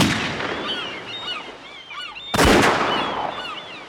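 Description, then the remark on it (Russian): A flock of birds squawks and honks in a dense, overlapping chorus, then a sudden loud blast cuts through and its noisy rumble lingers as the cries continue faintly. “Но что мог поделать один маленький мальчуган против целого полчища жадных крикливых птиц?”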